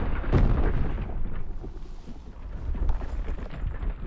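A heavy, booming thud hits early, then a deep rumbling crash rolls on for several seconds as the giant Sun Temple creature stomps his foot into the ground, shaking it.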